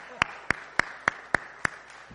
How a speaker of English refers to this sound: I think it's okay to clap, right?